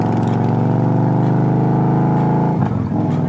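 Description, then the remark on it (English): The engine of a white 2014 Victory Cross Country touring motorcycle rumbles loudly, holding a steady, throaty drone before a brief lurch in pitch near the end as it revs and pulls away. “It's a 2014 Victory Cross Country, all white, polished, curves.”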